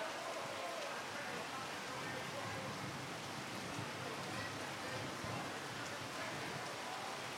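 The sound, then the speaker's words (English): Heavy rain pelts the fabric of a tent over a live performance, a dense, steady patter that roars continuously without letup for the whole stretch. “Then the rain on the tent's pretty loud, so it's going to be a little difficult.”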